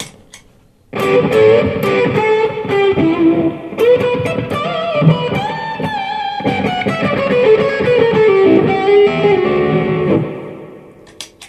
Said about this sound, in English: And then a whole different type of fuzz.